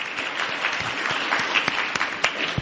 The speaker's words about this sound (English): want to say a quick thank you to the Gallatin Bar Association and the MSU pre-law students that also helped to make this happen. Can we have a big, quick round of applause? It took a lot of work to make this happen.